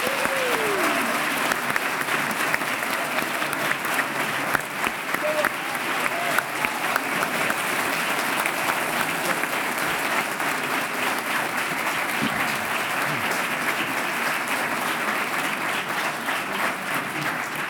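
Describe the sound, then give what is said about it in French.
A theatre audience applauds steadily for the full stretch, a dense, even wash of clapping with no pauses, as actor Sergi Lopez is welcomed after Sirat wins the Prix du Masque for best foreign film. A few faint voices surface briefly beneath it. “Sous les applaudissements, on ajuste votre micro, Sergi Lopez.”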